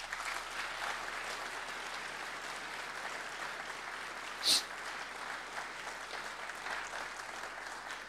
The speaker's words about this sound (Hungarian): láttam is itt az előbb, úgyhogy neki személyesen is szólhat a taps.